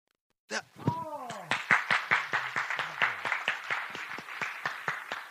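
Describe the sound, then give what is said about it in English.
An audience claps like normal, randomly rather than synchronized, as a demonstration: a loose, unsynchronized patter, many sharp hand claps overlapping irregularly at a steady moderate loudness, with a brief falling whistle-like tone near the start. “So I'm going to do a really cool trick, and we're going to clap like normal.”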